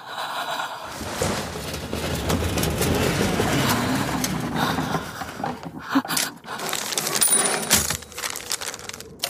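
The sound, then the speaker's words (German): Busy clatter of typewriter keys striking in quick, uneven bursts as someone types a letter, with mechanical clunks and scrapes mixed in, continuing steadily for several seconds with no voices. “kurz bevor du gegangen bist, habe ich dir versprochen, nicht mit deiner Schreibmaschine zu schreiben.”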